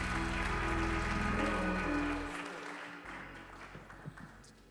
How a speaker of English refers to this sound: Clap your hands one more time as you're seated in the presence Un aplauso of the Lord.